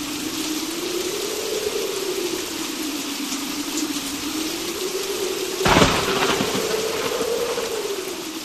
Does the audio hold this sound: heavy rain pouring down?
yes